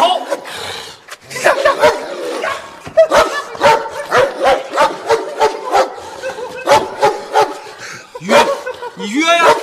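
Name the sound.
dog barking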